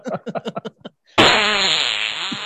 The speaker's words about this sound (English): I'm embarrassed how much I'm laughing about the fart sounds. Me too.